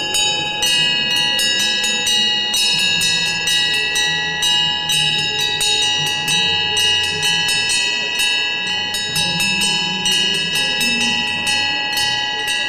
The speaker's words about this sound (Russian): Если колокол будет в каждом доме звонить, то... Мы Россию, скажем так, от всей нечистой силы очистим.